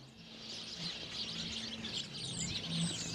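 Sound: birds chirping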